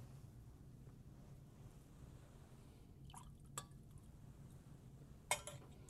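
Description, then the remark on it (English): A few small drips of water fall into wine in a chalice during the preparation of the gifts at Mass, with a light clink of metal or glass near the end, quiet against a low hum. “By the mystery of this water and this wine, may we come to share in the divinity of Christ, who humbled himself to share in our humanity.”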